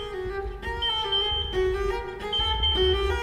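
An infusion pump alarm in a hospital patient's room beeps in steady repeating electronic tones, fairly loud, with a low background rumble underneath and no talking. The alarm was set off by pinching the infusion tube at 4 a.m.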